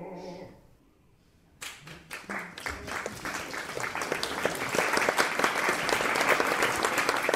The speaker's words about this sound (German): Applaus für den unglaublichen Spotz.